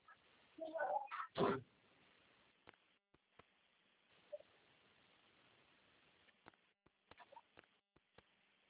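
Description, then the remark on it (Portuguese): A short cat meow near the start, followed by a loud rustling thump, then mostly quiet room tone with scattered faint clicks and small chirpy sounds. “Gatinha.”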